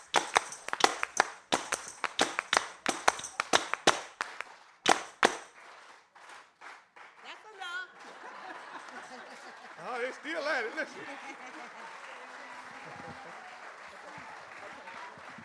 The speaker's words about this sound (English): Clap your hands. Let me see how much rhythm you got.